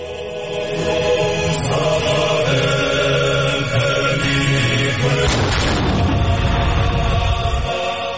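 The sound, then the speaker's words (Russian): A single ceremonial cannon salvo, fired in Telavi to mark the inauguration of fifth president Salome Zurabishvili, booms out partway through, its deep rumble rolling on for a couple of seconds over a steady, busy outdoor background. “Там нет царского дворца, как в Телави, где вступление в полномочия пятого президента Зурабишвили отметили даже пушечными залпами.”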